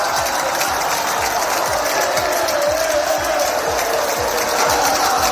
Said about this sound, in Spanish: Atentos a la tremenda ovación que se ha llevado este sábado en Roma nuestro Rafa Nadal.